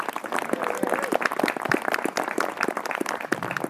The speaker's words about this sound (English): She's done a power of work to put together the camp out this year, and I think we should give her a big round of applause.